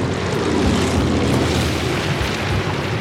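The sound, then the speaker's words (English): A small plane flown by two pilots roars loudly as it touches down on hard-packed beach sand at full flaps and skids and fishtails across it, a dense, steady rush of engine and friction noise with no voices. “When the wheels touch down, the plane skids and fishtails in the sand before bouncing to a stop.”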